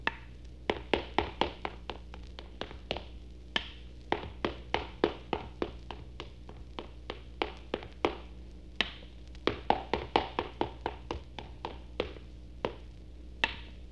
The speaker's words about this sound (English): That was a man playing ping pong by himself.